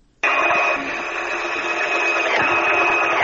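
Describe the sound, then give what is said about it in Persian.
A sewing machine used for tailoring by women in Afghanistan starts abruptly and runs steadily at full volume, a dense, even mechanical whir with a faint rhythmic chatter and a brief hitch partway through, no voices present. “در این گزارش که با صدای ماشین خیاطی آغاز میشه، همکارم خواجه کبیری با شماری از این زنان صحبت کرده.”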